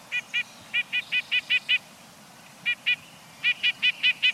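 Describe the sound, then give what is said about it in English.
A nuthatch gives a rapid series of short, nasal call notes in quick bursts, clear, over a faint low background rumble with no voices. “Have you noticed a sleek, stub-tailed bird pecking its way down a tree trunk? It's probably a nuthatch.”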